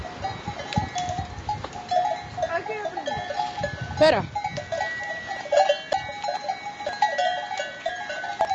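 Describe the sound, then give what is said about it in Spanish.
Mountain goats, some of them mothers, with clanking bells mill about, a steady jangle of metallic bell tones with occasional bleats, while a person briefly speaks. “Las cabras del monte.”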